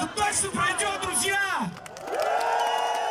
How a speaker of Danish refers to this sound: Og så der var en eller anden klar forløsning i, at der faktisk kom så mange mennesker og råbte deres mening mod Putin på den her måde.